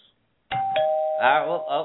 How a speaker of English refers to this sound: Good lord. I hate that sound. The doorbell.